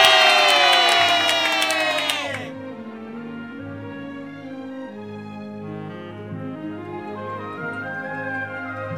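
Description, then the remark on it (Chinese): A loud burst of crowd cheering as people raise their hands and cheer for a king, many high-pitched voices yelling together for about two seconds, then abruptly dropping away to a quieter, sustained tonal background. “人们看到国王兴高采烈容光焕发的样子，也举手欢呼。”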